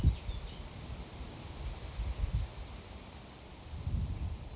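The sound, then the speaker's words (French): Wind gusts through tree leaves with a soft, broad rustle, swelling in low rumbling bursts near the start, the middle and the end, steady and moderately faint with no voices. “Simplement être mise en présence comme maintenant je suis au milieu du vent.”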